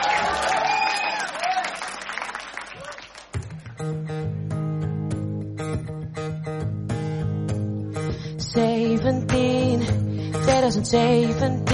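An audience claps and cheers for a few seconds for a singer on stage about to sing one more song, a dense wash of applause with a few shouts, before a band starts playing a sustained, steady tune that carries on to the end.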